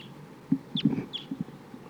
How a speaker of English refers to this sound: A lot of crossbills here flying around, including one that sounds like a type 2 bird, pointing at the flock.